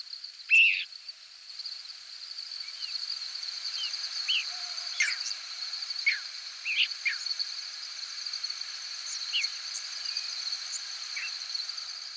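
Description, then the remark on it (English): Many short, high squeaks and thin whistled peeps from thousands of night-migrating birds passing overhead, scattered irregularly, mostly faint with one louder call near the start, over a steady shrill cricket drone in a quiet hayfield in central New York State at night. “This clip is from a six-hour recording of squeaks, whistles, and peeps from thousands of birds passing over a hayfield in central New York State.”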